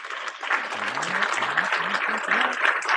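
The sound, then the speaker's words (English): A round of applause sound effect played for a correct answer in a guessing game: dense steady clapping from a crowd with a few cheers and voices mixed in, continuous and fairly loud for about three seconds. “But we've got some fun sound effects, because if you get it correct, you get a round of applause.”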